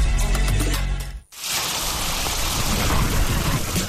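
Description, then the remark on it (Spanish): A low rumble of thunder opens, then after a brief silence a steady, dense roar of heavy rain takes over and continues loudly and evenly to the end, with no voices. “Cuando llueve fuerte y se inundan las calles”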